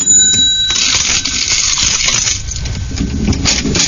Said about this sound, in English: Yes, and that's a cash register for those of you who have never heard that sound before.